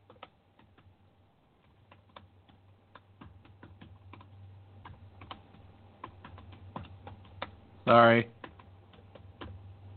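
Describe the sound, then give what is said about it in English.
Irregular clacking of keys on a Bluetooth computer keyboard continues throughout, fairly quiet over a steady low hum, with a short spoken word breaking in near the end. “My keyboard is acting up, by the way.”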